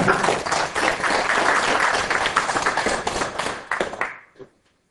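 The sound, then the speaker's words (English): A room full of people applauds, dense overlapping claps sustained for about four seconds before quickly dying away into silence. “This could be part of the discussion, but why don't we all clap first?”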